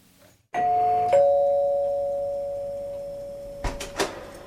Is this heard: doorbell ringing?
yes